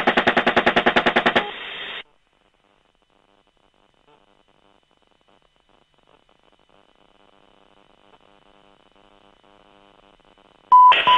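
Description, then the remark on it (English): A loud, rapid burst of cannon fire from a helicopter, callsign Crazy Horse, shooting at a truck, with fast evenly spaced shots for about a second and a half. Then near silence with faint hum, and a harsh noisy burst at the very end. “shoot it.”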